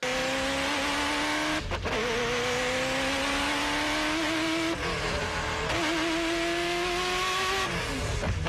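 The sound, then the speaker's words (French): A Ferrari F40 LM race car engine, a lighter, more aerodynamic and more powerful version of the F40 weighing 1050 kg with 700 horsepower, screams loudly, its pitch climbing steadily and then dropping briefly at each of several quick gear shifts before rising again; no voices. “Et si tu penses que la F40 chante bien, attends d'entendre la LM.”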